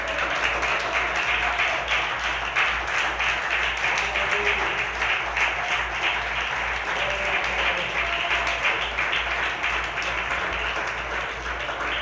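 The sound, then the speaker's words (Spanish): Sustained applause from a large crowd during a sermon, given to the Lord, fills the whole stretch, a dense steady roar of many hands clapping at once, loud, with faint voices mixed in beneath. “Dele otro aplauso al que vive, por favor.”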